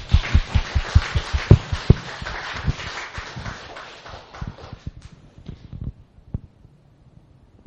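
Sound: audience applause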